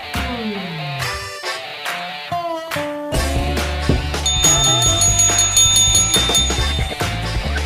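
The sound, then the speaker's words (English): A bright, ringing bell tone rises over a busy musical backdrop, with gliding pitches at first and then steady high chiming notes sustained over a heavy bass rhythm. “The bell is rung.”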